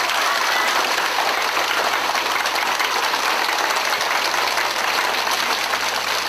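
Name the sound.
warm audience applause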